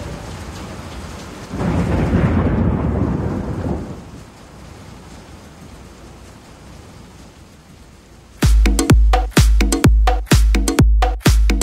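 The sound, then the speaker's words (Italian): A steady, hissing downpour of heavy rain with a deep rumble of thunder early on, followed near the end by a series of loud, sharp, evenly spaced booming hits. “Piove, senti come piove, Madonna come piove, senti come viene giù.”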